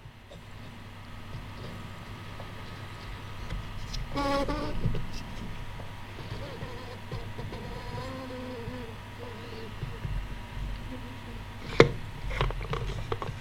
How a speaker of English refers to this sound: we have to start off with some bean juice. And it's ready for the plunger to plunge. So here we go.